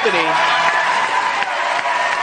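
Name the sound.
crowd erupting in cheers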